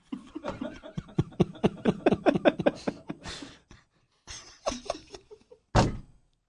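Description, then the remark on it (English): A rapid flurry of loud knocks pounds on a door for about three seconds, then a shorter burst of knocking and one final heavy thud after a pause. “Just keep pounding.”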